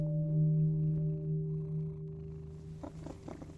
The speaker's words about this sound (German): Ich kann mir vorstellen, dass so eine schnurrende Katze auch ein sehr gutes Einschlafmittel ist.